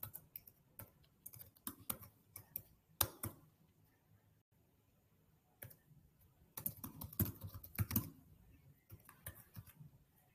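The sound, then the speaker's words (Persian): Quick bursts of computer keyboard typing mixed with sharp mouse clicks as someone closes and reopens a website, fairly quiet, arriving in irregular clusters separated by a short pause of near silence. “حالا ببندم از رو همین کلیک بکنم که مطمئن بشم بازه.”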